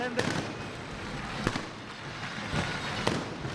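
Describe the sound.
Fireworks lit by fire groups go off in a town square as human-tower pillars stand, a steady crackling roar broken by four sharp, loud bangs at irregular intervals, with a faint murmur of voices and applause mixed in.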